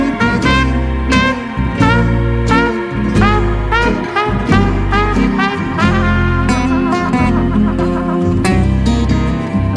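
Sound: ducks quacking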